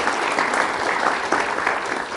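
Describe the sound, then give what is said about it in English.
Steady, dense applause from an audience welcoming Priyanka Chopra to a town hall, many hands clapping together in a continuous bright wash of sound with no voices standing out. “Let's please welcome, with a big round of applause, Priyanka Chopra on our Town Hall today.”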